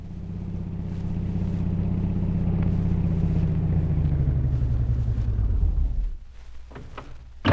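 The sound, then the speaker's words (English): A taxi's engine rumbles steadily and low as it drives onto a flying field in Mandalay, shades drawn and lights dimmed, its pitch slowly dropping as it slows and idles down, ending with a brief thump. “Meanwhile, back in Mandalay, a taxi drives onto the flying field, its shades closely drawn and its lights dimmed.”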